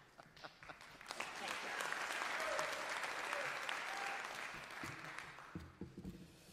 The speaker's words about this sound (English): If you would all please rise again and give our Madam Chairman another round of applause and thank you for her service as we accept her resignation.